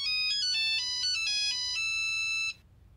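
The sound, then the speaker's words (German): A Nokia mobile phone ringtone plays its quick electronic melody of stepping tones, loud and clear, for about two and a half seconds before cutting off into near silence. “Das war ein völlig unverschlüsselter Nokia-Klingelton.”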